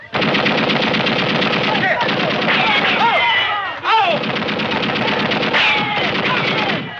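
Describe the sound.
Sustained bursts of rapid machine gun fire hammer on continuously, a dense crackling roar with brief lulls, while overlapping shouting voices rise through the barrage, in a scene from Dino Risi's 1962 film La marcia su Roma.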